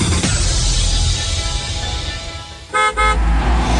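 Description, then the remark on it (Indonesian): Steady roar of traffic, then two short, loud car horn blasts in quick succession near the end, honking over the congested street noise. “Ada macet, ada macet, aku tahu.”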